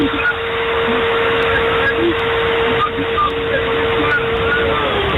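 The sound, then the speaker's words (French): A chainsaw runs steadily for several seconds, a loud continuous buzzing drone with a constant pitched whine and no pauses or revving. “Très bien, il faut vraiment la tronçonneuse un peu plus loin et vous rapprochez votre bouche du micro, je vous entends pas.”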